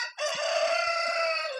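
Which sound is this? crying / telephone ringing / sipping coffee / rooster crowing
rooster crowing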